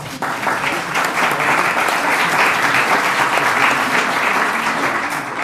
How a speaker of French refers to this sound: Je crois que vous pouvez l'applaudir.